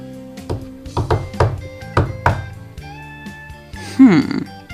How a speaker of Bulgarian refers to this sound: Остана ни последната къща! Тук е доста тъмно. Може би няма никого. Все пак ще почукам.